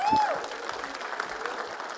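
An audience claps steadily for about two seconds, a dense, even wash of many hands, with a brief high whistle-like tone rising over it at the very start.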